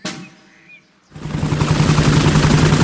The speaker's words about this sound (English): What's that noise? Whoa, I'm flying! Miss Rabbit's helicopter has rescued Daddy Pig. Hooray! Lucky Daddy gets a helicopter ride after all.